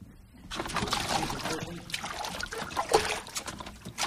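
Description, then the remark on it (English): Water sloshes and churns as a yacht moves through it on Cicero Creek, a steady rushing wash with occasional splashes, starting after a brief quiet moment and continuing throughout. “Went out to Cicero Creek on his yacht.”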